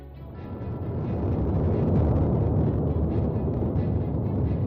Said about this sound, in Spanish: Así ruge desde el mismo corazón, el volcán de Cumbre Vieja, al que estamos viendo gracias a los drones.